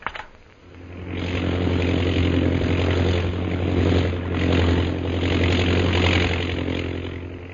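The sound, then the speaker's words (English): The engine of a chartered propeller plane leaving Shanghai bound for Mandalay drones steadily and loudly, a low throbbing hum with a rough mid-range roar that swells and eases slightly over several seconds, with no voices. “So Jungle Jim, Kolo, and Peter Hawkins board the chartered plane at Shanghai, Mandalay bound.”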